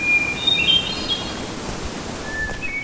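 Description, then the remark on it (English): Forest birdsong on a sunny evening during a run: thin, high whistled calls and trills, scattered over a steady background hiss of wind or leaves, with no voices present. “One reason I love to run in the evening in the forest is that this is one of the times when the bird song is just kind of crazy and lush.”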